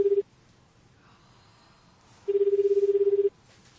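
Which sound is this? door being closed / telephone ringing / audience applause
telephone ringing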